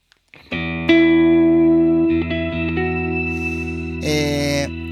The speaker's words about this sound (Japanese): ちょっと一回ね、僕の、楽曲で、デモ演奏していこうかなと思ってるんで、よかったら、聴いてみてください。